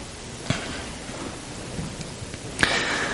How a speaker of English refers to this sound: Father, as we come before you this morning, we thank you for the rain.